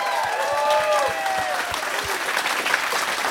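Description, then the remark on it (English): A crowd applauds the crew of the ship Westerdam, clapping steadily in a dense, continuous burst of applause, with a few whistles and cheers rising above the clapping throughout. “Let's give another round of applause for the crew of the Westerdam.”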